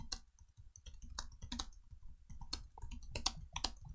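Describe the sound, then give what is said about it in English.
Someone types steadily on a computer keyboard, a rapid, irregular patter of crisp key clicks, with a few sharper strokes standing out and no voices. “I'm sorry, I was typing.”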